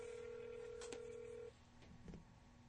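A steady telephone tone hums for a moment, broken by a couple of quick beeps as numbers are dialed, then cuts off, leaving a few faint clicks on a quiet line.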